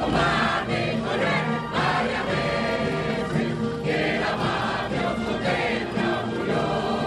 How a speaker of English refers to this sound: It's not every day that the Cuban national anthem is sung by a crowd at a ceremony in Washington, D.C., but this was a historic occasion when the U.S. and Cuba reestablished diplomatic relations after a break of more than 50 years.